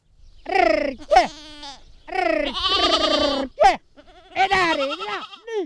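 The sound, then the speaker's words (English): A flock of about 100 sheep and goats bleat in a series of wavering, quavering cries, loud, with a local shepherd's voice calling out among them to round up the flock in rocky hills just outside Altamura in Puglia, Italy. “The local shepherd is crying out to round up his flock of 100 or so sheep and goats in the hills just outside of Altomora in Puglia.”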